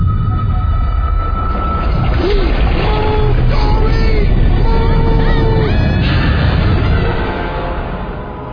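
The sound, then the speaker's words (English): A whale calls out in a series of long, moaning tones that rise and fall, echoing over a deep, steady underwater rumble for several seconds before fading slightly. “Whales don't eat clownfish. They eat krill.”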